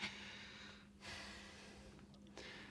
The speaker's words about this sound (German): Schnauft.